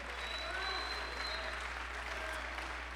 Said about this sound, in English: Let's clap our hands and let's bless his name.